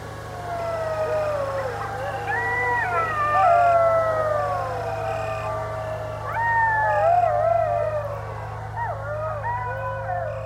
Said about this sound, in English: When I mentioned it in the morning, she explained that I was actually hearing coyotes, and it was probably just two or three of them.